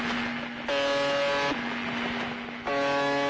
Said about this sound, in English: After that, it switched to buzzes, generally between 21 and 34 per minute, each lasting roughly a second, a nasally foghorn blaring through a crackly ether.